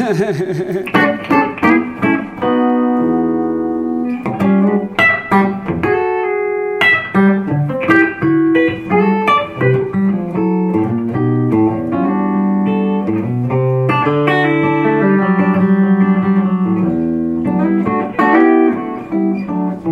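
Clean-tone electric guitar with a little reverb comping funky chords, steady choppy strums and quick rhythmic stabs playing clear, with no one talking.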